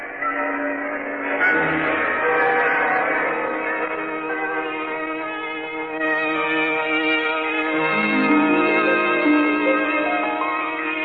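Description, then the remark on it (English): Mission church bells ring continuously, their rich, overlapping tones sustaining and blending, with fresh strikes renewing the sound every few seconds. Loud and full, with no voices present. “Long since gone are the unhappy days when your pioneering mission voice, calling man to penance, clashed with the less somber tones of the bells which others brought from their homelands.”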